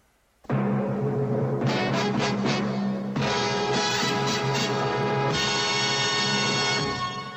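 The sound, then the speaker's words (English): A brief, bold fanfare-style jingle from the old ITC Entertainment TV production logo, known from The Muppet Show: loud, bright sustained chords that swell in a few stepwise shifts, played alone with no voices, then ringing out at the end. “Yeah, it's ITC Entertainment.”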